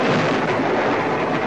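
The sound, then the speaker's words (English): A loud lightning strike, hitting an aircraft in flight during a squall, with a harsh thunder crack that stays as a dense, crackling roar for over a second, with no voices. “It's the lightning, it hit us.”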